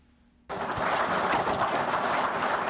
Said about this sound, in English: Those are Zimbabwean officials, including Wildlife and Environment Minister Opamuchinguri, clapping after they received anti-poaching equipment